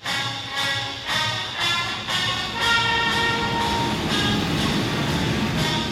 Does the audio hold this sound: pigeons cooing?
no